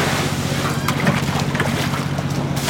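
Live shrimp, the day's harvest from Lake Bourne near New Orleans, being emptied in a boat's hold: a steady rush of splashing water with scattered clicks and patters over a low, droning engine hum, with no talking.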